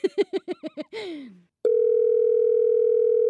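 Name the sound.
telephone dial tone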